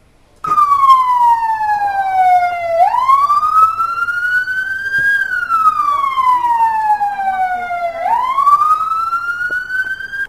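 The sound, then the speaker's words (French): A New York ambulance siren wails loudly, its pitch sweeping slowly up and down in long rising and falling cycles, with faint traffic rumble underneath and no talking. “Le deuxième est celui d'une ambulance new-yorkaise.”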